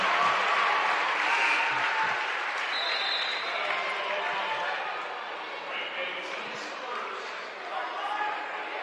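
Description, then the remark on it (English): A basketball crowd at a Blackhawk game lets out a sustained sarcastic cheer after a foul is called, a loud, steady roar of mixed voices and some clapping that eases slightly toward the end. “There's your sarcastic cheer.”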